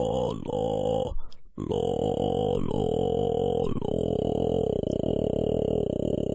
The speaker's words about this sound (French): Il s'agit en fait du record de la plus basse note féminine au monde.